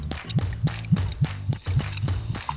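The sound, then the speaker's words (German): Water pours into a vessel in a steady stream, with rhythmic glugging pulses roughly every third of a second and a bright splashing sound above them. No one speaks. “Wasser, Wasser, Wasser. Trinken so viel Wasser, wie es nur geht und verzichten heute lieber auf euren Morgenkaffee.”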